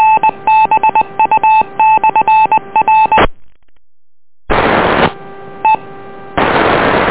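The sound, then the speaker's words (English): A rapid string of telephone touch-tone beeps plays for about three seconds, loud, on a county traffic and emergency amateur radio net, then a brief silence gives way to harsh bursts of static-like hiss with faint tones underneath. “Stand by one. I have to get the phone.”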